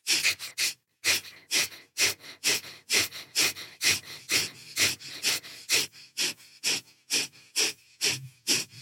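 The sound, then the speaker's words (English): A guided quick breathing exercise of quick, forceful inhales and exhales through the nose, about twenty sharp huffs in a steady driving rhythm, fairly loud, with no talking. “Us in a quick breathing exercise before sure.”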